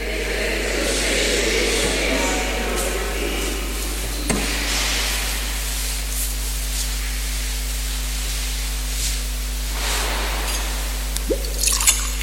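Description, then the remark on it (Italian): A brief, light trickle of water being poured into wine in a metal chalice, soft, with faint drips, over a steady low electrical hum in otherwise quiet surroundings. “L'acqua unita al vino sia il segno di unione per la vita divina.”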